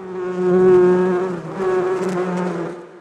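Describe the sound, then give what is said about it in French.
A steady, droning buzz of many bees swarming around hives, the hum swelling and dipping slightly over a few seconds with no voices present. “Je l'ai laissé à ses abeilles”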